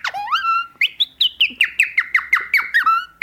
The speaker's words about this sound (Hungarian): Ugye volt az előbb, amit mutattam, a madárhangok, ez a... Na.